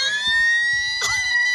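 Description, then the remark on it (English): A loud elk mating-call bugle: a sustained, high, siren-like whistle rich in overtones, with a sudden squealing pitch break partway through before the shrill tone carries on. “That's an elk. That's an elk.”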